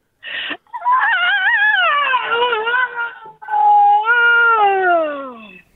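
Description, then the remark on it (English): A loud, exaggerated human moan: a brief squawk, then two long wavering cries with a quivering, cat-like pitch that slowly drops, with no other speech. “And I just need a big stretch and a big moan.”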